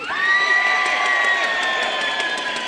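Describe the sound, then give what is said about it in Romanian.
An audience cheers loudly and continuously on cue after a count of three, dominated by high, shrill screams that sound mostly like girls' voices, sustained for a few seconds with a bright, piercing edge. “Nu, cam ascuțit, mai mult fetele au țipat.”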